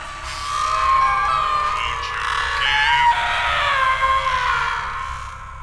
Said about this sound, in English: Can you hear that? What? Like screaming.